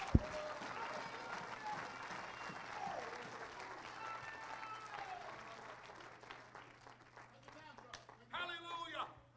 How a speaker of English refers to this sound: Oh, let's clap our hands to him.